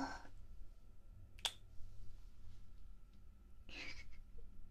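A few soft kissing smacks given on Kiss Day, spaced out in near silence, one crisp and sharp, the others breathier and more muffled, all quiet and intimate.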